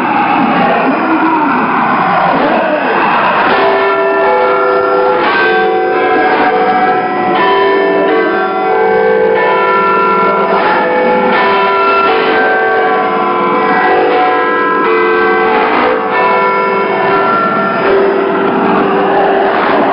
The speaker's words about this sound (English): The BBC, London and Britain now awaits the chimes of Big Ben, which will herald the next challenge, the new century and the year 2000